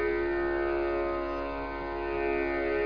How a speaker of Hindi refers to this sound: पुत्र अभिमन्यु और द्रौपदी के पांचों पुत्रों ने भिन्न भिन्न शंख बजाए, भयंकर नाद हुआ। आकाश आकाश सारा पृथ्वी सारी गूंज उठी।